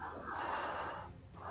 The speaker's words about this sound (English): Someone's breathing into their mic. Pull away, guys.